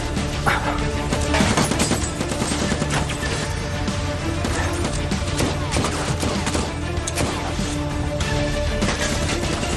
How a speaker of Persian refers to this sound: اهالی دهکده حتما صدای اسلحه رو شنیدن.